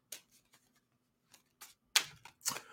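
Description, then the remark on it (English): Tarot cards being shuffled to draw a card: a few soft papery flicks, then louder crisp riffling bursts near the end, with no voices. “Just shuffling the cards.”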